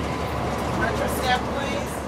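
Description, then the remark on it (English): Inside a moving number two city bus: a steady, even engine rumble and road noise fill the space, with faint indistinct chatter blending into the constant hum. “We heard that over and over again on the number two bus.”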